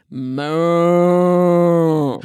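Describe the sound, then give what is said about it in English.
A single long, loud moo from one of a herd of at least 30 cows moving along in the morning, a steady low-pitched bellow with rich harmonics that swells after a brief start and holds for about two seconds before cutting off. “I mean, to be fair, I don't think we're quite as loud as those cows this morning.”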